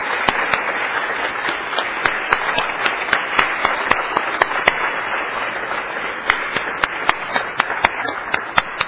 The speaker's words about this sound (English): So if all the committee staff would please stand up and let us give you all a round of applause.